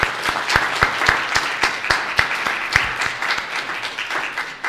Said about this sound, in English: And I think we can give these four members a round of applause.